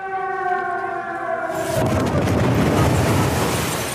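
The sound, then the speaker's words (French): A steady siren tone sounds, then a sudden loud explosion from a Russian bombing of the regional administration building in Kharkiv, Ukraine, on 1 March 2022, followed by a heavy, sustained roar of rumbling noise that drowns out everything else. No one speaks. “L'explosion vient de se produire.”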